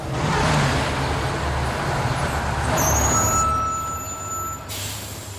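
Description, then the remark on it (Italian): A large city bus rumbles with heavy low engine noise, then lets out a hiss of air brakes and faint whining tones as it pulls to a stop. No one speaks. “Non ha detto che aspettava l'autobus numero 7? Tra poco ne passerà un altro, sicuramente.”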